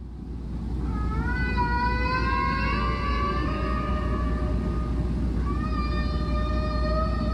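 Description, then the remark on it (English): Whales sing in long, rising and gliding tonal calls layered with harmonics, a sustained phrase followed by a pause and another swelling call, all over a constant low underwater rumble, recorded by an ocean research vessel. “The Odyssey also collects recordings of whales singing”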